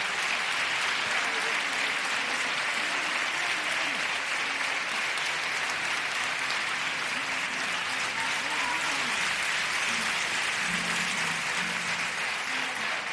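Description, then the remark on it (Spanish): Sustained, unbroken applause from a large crowd fills the whole stretch, a dense steady roar of clapping that never fades, with faint murmurs of voices beneath it: an ovation for chirigotero Manolo Santander in the Falla theatre, the longest of the night and of the coplas contest. “El aplauso no termina, sin lugar a duda el más largo de toda la noche y de todo el concurso de coplas.”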